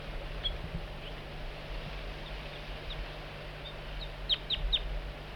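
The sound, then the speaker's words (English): An adult bird's soft, high flight calls, coaxing a juvenile in, sound sparsely at first, then a quick run of three sharper chirps near the end, all fairly faint over a steady low background rumble. “Bird 4-3 coaxing the juvenile in with soft flight calls.”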